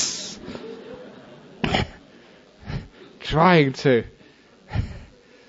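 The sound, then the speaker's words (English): A voice imitates a cobra's hiss with several short, breathy hissing bursts spaced irregularly, plus a brief vocal sound in the middle, moderately loud. “When he came to his senses, he saw the snake had been disturbed, had lifted its head, opened its hood, and was trying to hiss, hiss.”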